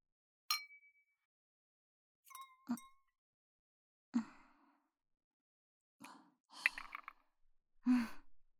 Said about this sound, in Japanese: 座ったし、とりあえず乾杯して大丈夫？それじゃあ、乾杯。